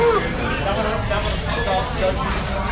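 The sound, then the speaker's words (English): Glasses clink together in a toast, a couple of bright ringing taps, with people chattering and murmuring in the background. “Cheers.”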